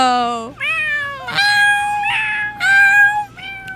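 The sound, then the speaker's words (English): A person imitates a cat, giving a series of drawn-out, rising and falling meows in quick succession, loud, with no other talking. “If you can provide a really good meow, we'll put you on air.”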